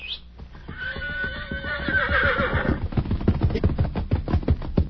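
A horse lets out a loud, close, wavering whinny lasting a couple of seconds, followed by a quick run of rhythmic hoof clops. No one speaks.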